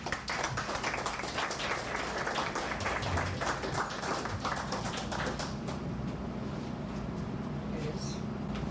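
An audience bursts into steady, dense applause, many hands clapping at once for several seconds before the clapping thins out and fades into a low murmur.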